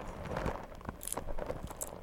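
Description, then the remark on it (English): Car and house keys being shaken jangle in a couple of quick, bright metallic bursts over a soft background of handling noise, fairly quiet. “Those keys?”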